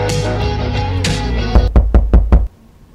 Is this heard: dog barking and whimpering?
no